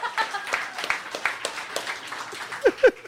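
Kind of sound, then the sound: crowd, audience clapping hands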